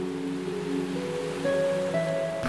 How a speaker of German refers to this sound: Oh oh, zu spät! Dieses Mal schwappt dir die Welle über den Kopf.